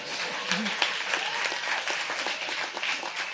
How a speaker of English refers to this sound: Anytime you want to clap would be a good time.